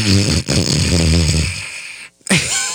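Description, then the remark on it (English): A voice imitates a father's loud snoring as he sleeps with his head kicked back in his chair at a Broadway play: rough, rattling low snorts that drag on for over a second, a brief silent pause, then another snore starting up. “He has his head kicked back in his chair and just starts snoring like...”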